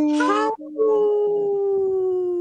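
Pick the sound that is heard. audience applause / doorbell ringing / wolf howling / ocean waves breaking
wolf howling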